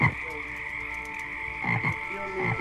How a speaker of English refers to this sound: Maybe it's because this is my second time, or maybe it's because of the strangely comforting sounds of nighttime tree frogs. But all my fear melts away.